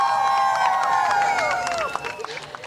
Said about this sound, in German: Applaus und viele erleichterte Gesichter.